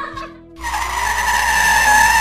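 A brief low rumble gives way to a loud, sustained tire screech as a car brakes hard and skids, the high squeal holding steady to the end.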